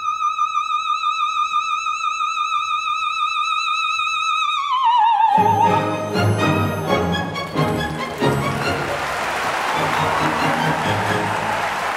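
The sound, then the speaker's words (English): A singer holds a long, high vibrato note that slides down and ends, then dense, loud audience applause erupts for the performer playing Olympia and continues steadily to the end. “You know, an Olympia is just standing there receiving this applause and not really able to react to it in a way that's human, which is kind of hard because I just want to break free of the robot and go, thank you, thank you, thank you.”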